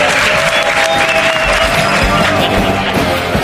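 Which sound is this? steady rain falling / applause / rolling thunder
applause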